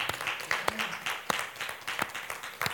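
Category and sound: crowd, audience clapping hands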